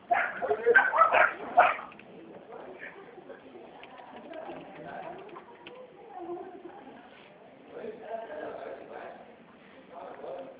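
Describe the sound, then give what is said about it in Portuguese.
A dog barks loudly in a quick cluster of sharp yaps at the start, then the barking drops away to quieter whimpers and yips under faint, indistinct voices. “Como é que foi descobrir um cachorro ali? Ah, sim. Tá latindo.”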